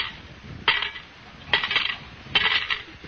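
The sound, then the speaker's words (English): Coins worth 40 cents drop into a collection kitty in three bright metallic clinks, each a sharp jingling burst spaced about a second apart, with no talking. “You put 40 in the kitty.”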